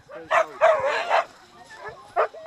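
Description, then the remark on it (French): A leashed dog being taken for a short walk barks and yips in a few short, high-pitched bursts, with one longer whiny yelp early on and a final quick yip after a brief pause. “Là, vous avez pris un chien en laisse pour une petite balade.”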